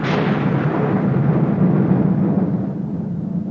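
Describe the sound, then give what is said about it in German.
A loud, continuous roll of thunder rumbles for several seconds, heavy in the low end, with a bright crack at the start that slowly darkens and settles. No one speaks. “Und den Donner auch.”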